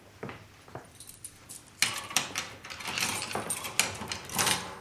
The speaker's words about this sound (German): Das heißt, nein, das Gitter war ja geschlossen, als wir Ihre Frau fanden. Schließen Sie bitte das Gitter.